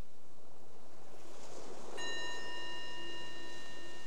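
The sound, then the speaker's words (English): A meditation bell is struck once midway through, its clear ringing tone and bright overtones sustaining steadily to the end over a soft, rushing background hiss. “The ringing of the bell is our invitation to be right here, right now.”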